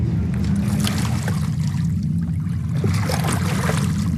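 A steady outdoor water ambience at Lake Zurich, Switzerland, on a sunny morning with people bathing, with a constant low rumble and soft lapping and trickling sounds throughout, no clear voices.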